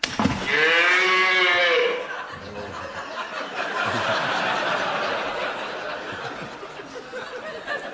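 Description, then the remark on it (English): A long, wavering moo lasting about two seconds, made by human voices imitating a cow as their move in a cow-lake-bomb game, followed by scattered chuckles and laughter that trail off. “We did the cow. We did the cow. We did the cow.”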